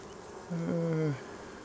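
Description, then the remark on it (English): Honey bees buzz in an open hive, a drone wavering slightly in pitch for under a second before fading, against a quiet, faintly hissing hive background with no talking. Several hundred bees cover a quarter of the center frame, feeding with their heads in the honey. “Several hundred bees here, probably covering one quarter of the frame.”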